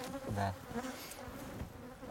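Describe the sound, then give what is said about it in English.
A dense, steady buzzing of many Bashkir wild bees humming together in a tree hollow, a continuous droning hum with slight wavering in pitch and no voices. “The unique thing about the Bashkir Borzian bee is that it lives in tree hollows all year round. Over the centuries, they've adapted to this lifestyle. Winter temperatures here can drop to minus 45 degrees Celsius. You can hear them.”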